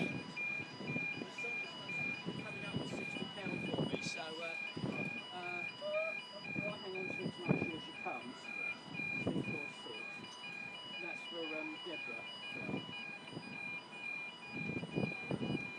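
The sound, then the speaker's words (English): A shrill, high-pitched siren tone repeats in steady pulses throughout, holding one pitch, while people talk over it and melodic sounds come and go. “Painful, this siren.”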